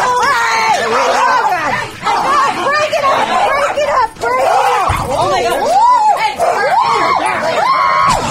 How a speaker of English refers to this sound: Those were real screams from …, by the way.